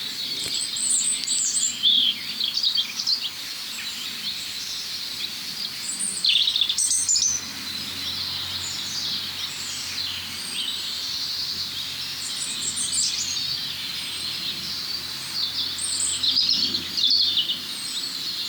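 At least three European robins sing high, thin, warbling phrases in overlapping bursts, 10 to 15 metres apart, over a steady background hiss, with trills recurring throughout and no voices present.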